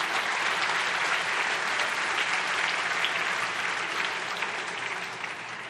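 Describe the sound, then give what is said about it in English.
A large church audience claps steadily and loudly for Jesus for several seconds, a dense wash of overlapping hand claps that stays full throughout and eases off slightly at the end. “Can we just give Jesus a round of applause?”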